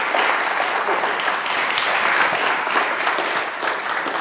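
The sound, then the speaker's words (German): Sustained audience applause welcoming a speaker at the FrOSCon 13 conference, a dense wash of many hands clapping at steady loudness throughout, continuous with no speech over it. “Ich würde sagen, wir starten einfach einen großen Applaus für Scotty.”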